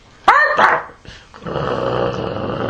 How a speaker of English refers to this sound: It's a dog. That's not a friendly dog. It honestly, if it was to stand on its hind legs, it's probably as big as her.